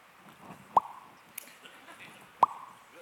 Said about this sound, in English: And I can remember another time I found myself standing on the main floor in another room, and I heard a dripping noise. Just that, you know, that like.